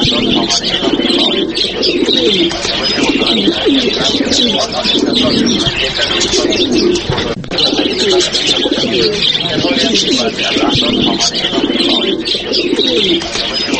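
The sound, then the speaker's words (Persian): A flock of pigeons coos continuously, their low throaty rolling calls overlapping into a dense, steady chorus, with lighter chirps and twitters scattered above. “شنوندگان عزیز، کفتر یا کبوتر کزش در زمانه های قدیم به نام قاصد بوفا یاد می شد.”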